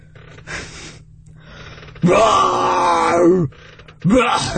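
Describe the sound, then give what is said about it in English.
A person imitates a lion roar with a loud, strained, groaning vocal lasting over a second, its pitch rising then falling, followed by the start of another growling roar after a brief pause. “It's hard to do a lion roar.”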